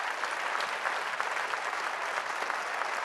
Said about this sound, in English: We want to thank her with a real round of applause for everything she's done.